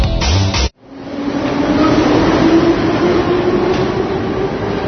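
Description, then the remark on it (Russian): A short burst of sound cuts off, then a metro train rumbles loudly, its electric motor whine rising steadily as it pulls through Lenin Square metro station, with no talking. “На уваходзе ў станцыю метро плошча Леніна з боку вакзала стаіць міліцыянер.”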